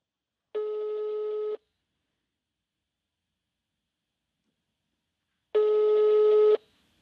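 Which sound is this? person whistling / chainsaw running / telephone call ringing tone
telephone call ringing tone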